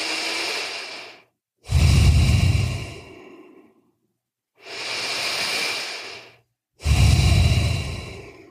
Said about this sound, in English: So feel the warmth of your hands on your belly and just breathe normally through your nose. Relax your jaw. Just breathe in and out through your nose for 3 breaths. No mouth yet. Just breathe through your nose in and out.